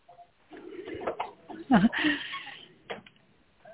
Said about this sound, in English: I'm going to shut a door.